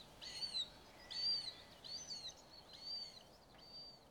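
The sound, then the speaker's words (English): A Cetti's warbler sings a series of sharp, loud, explosive bursts, four or five quick phrases repeated at an even pace, ringing out clearly over a low, steady outdoor hiss. “Certainly, neither Britain nor Crab will have heard the Chetty's warbler.”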